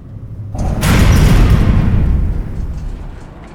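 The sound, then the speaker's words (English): A lift stops at the third floor: a sudden heavy clunk gives way to a loud, low mechanical rumble that slowly fades over a few seconds. No one speaks. “The lift stops at the third floor.”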